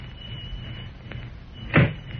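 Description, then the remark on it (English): The door of Hans Müller's bookshop in Metropolis opens with one short, solid clunk as someone enters, against a low, steady background hum, preceded by a faint click. No one speaks. “Meanwhile, back in Metropolis, a familiar figure enters Hans Müller's bookshop.”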